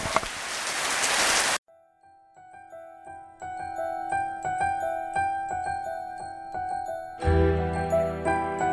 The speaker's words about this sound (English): I don't know how this has gone through in the horrendous rain here.